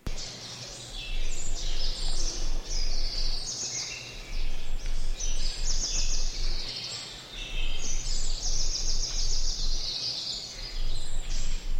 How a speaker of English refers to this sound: How monotonous the sounds of the forest would be if the music came only from the top 10 birds. We give all the birds a chance.